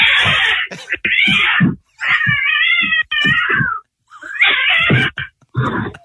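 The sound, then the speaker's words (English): An angry cat yowls and caterwauls at its owner who has just come home, in several loud, drawn-out bursts, its wavering cries rising and falling with brief pauses between them. “This is someone who came home to their cat, and the cat almost destroyed them, like was pissed at them for some reason.”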